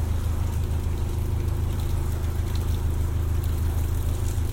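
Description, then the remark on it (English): A steady, low engine drone from an oncoming boat on the water, about 50 to 100 yards away, constant and fairly loud, with a wash of splashing, rain-like water noise over it and no one talking. “Must be about 50 to 100 yards from the oncoming boat now.”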